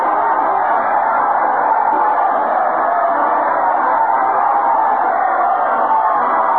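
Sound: crowd cheering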